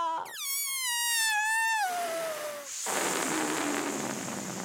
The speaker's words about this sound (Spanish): Vueltas por el aire como un globo que se desinfla.